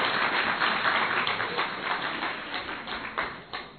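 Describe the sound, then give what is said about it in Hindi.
A crowd applauds steadily, a dense wash of many hands clapping at once that stays fairly loud throughout, tapering slightly near the end, with no talking over it. “अभी कौन से तालियां बजाओ ना थोड़ा अच्छी तरह से।”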